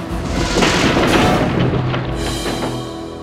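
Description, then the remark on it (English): A loud, rumbling crash of a stick house collapsing after a wolf blows on it as hard as he can, with booming low thuds and scattered cracking clatter that carries on steadily for about three seconds, with no voices. “Then he blows as hard as he can. The stick house falls down.”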